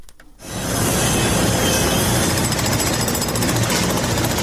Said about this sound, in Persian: می برند، می کنند و سوراخ می کنند. تقریبا 5 شبانه روز است که صدای ماشین‌آلات و ابزار نیروهای امدادرسان در شمال سوریه و جنوب ترکیه قطع نمی شود.